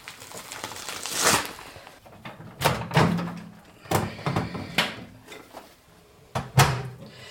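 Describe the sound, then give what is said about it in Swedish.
A microwave oven door opens with a clunk, followed by a run of sharp clicks and knocks at irregular intervals as the oven is closed and set to heat frozen schnitzels. No one speaks. “Nu mikrar vi de frysta schnitzlarna för att stektiden ska motsvara de färska.”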